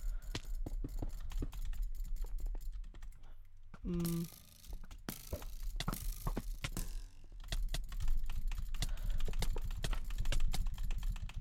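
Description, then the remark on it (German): Rapid, steady clicking of a computer keyboard as someone types, the keystrokes continuing throughout with a brief low electronic tone and a short pause partway through. “Ja, ich glaube, die Tastatur wird mir jetzt deutlich leiser.”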